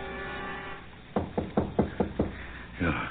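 A series of six sharp, evenly spaced knocks on a door, distinct, following a low steady hum, with a brief muffled sound at the end.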